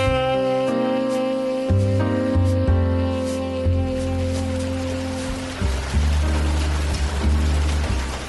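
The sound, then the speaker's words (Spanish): Light drizzling rain falls over a city, pattering softly and steadily beneath sustained, droning musical tones, the wet hiss continuous and gentle throughout with no voices. “La llovizna refrescó la ciudad. Las nubes restellaron constantes anunciando la tormenta.”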